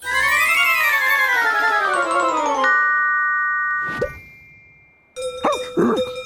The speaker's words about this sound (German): Warum habe ich eine Kuhglocke um den Hals? Oh, der Zauber ging daneben.